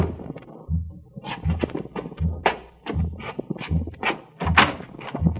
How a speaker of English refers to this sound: It was noon when I was awakened by a knock on the door.